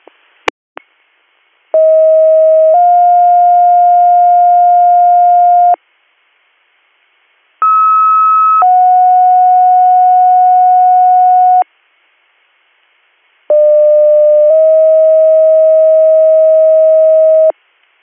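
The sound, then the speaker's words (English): Radio dispatch alert tones paging Western AMS, 3rd due, to a general illness call in Troy Township: three loud, steady two-tone pages, each a short tone stepping into a longer held one, separated by pauses of silence, with a couple of clicks at the start. “Stand by for tones.”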